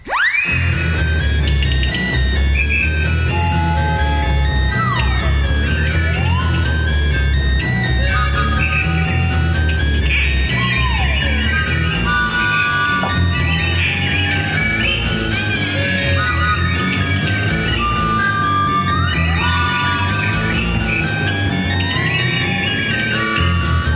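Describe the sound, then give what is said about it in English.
A chaotic, densely layered instrumental piece meant to evoke fire, with swooping and sliding high tones swirling over a heavy, churning low end, staying loud and busy throughout. No voices are heard. “Then a little later on, it gets into sounding more like fire.”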